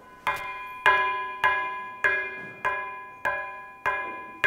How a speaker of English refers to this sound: The sound of a bell.